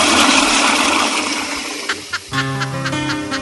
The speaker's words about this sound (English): She got her hand on the flusher, man.